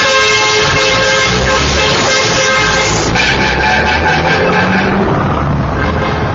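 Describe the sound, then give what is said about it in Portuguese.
Many car and truck horns honk together in a dense, continuous blare during a protest convoy on Avenida Colombo, loud and sustained, with overlapping tones and engine rumble from a line of vehicles. “Na Avenida Colombo, eles fizeram um buzinaço.”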